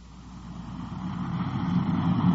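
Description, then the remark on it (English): A Culver City, California police patrol car engine hums steadily as the car cruises west on patrol, a low continuous rumble that grows slightly louder over a couple of seconds, with no voices present. “We switch you now to car 5-4 on patrol”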